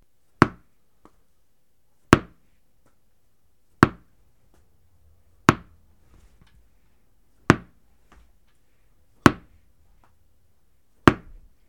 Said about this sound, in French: Je répète. Quentin doit faire rebondir 6 fois le ballon, mais il s'est trompé.